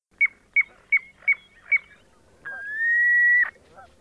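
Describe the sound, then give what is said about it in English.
A piping plover calls with five short, clear whistled peeps at an even pace, then one longer, steady whistle that rises slightly. The bird is heard alone. “Piping plover.”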